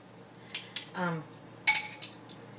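Metal utensils clatter and clink as someone rummages through a big kitchen drawer of utensils looking for a teaspoon measuring spoon while cooking, with a few sharp, bright jangles spread irregularly and a short voiced murmur in the middle.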